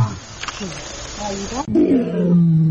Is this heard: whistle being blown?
no